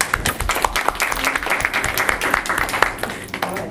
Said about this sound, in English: Let's give her a clap.